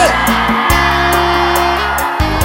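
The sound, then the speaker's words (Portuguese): A concert crowd in São Luís screams and cheers loudly, a dense sustained roar over a steady, booming bass line from the band, filling the whole moment without letting up. “Cadê o grito de São Luís?”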